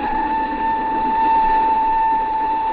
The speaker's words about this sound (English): Then on the afternoon of the second day, while the train was snaking upwards through the Italian Alps, I was idly leafing through some magazines I'd picked up in the Milan station when the train attendant came in.